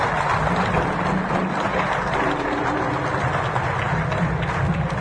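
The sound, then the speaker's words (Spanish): An audience breaks into sustained applause for union leader Saúl Ubaldini, a dense, steady wash of many hands clapping at a constant loud level throughout, with no individual voices standing out. “y creo que también a Saúl le merecemos otro gran aplauso.”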